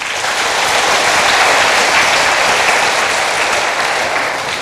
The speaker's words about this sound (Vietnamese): Nếu các con thấy rằng đó, bài học không vi phạm luật pháp, không làm những gì trái với lương tâm đạo đức, và những gì không được cho phép là điều mà các con nên tình nguyện làm, thì hãy cho một tràng vỗ tay thật lớn nào.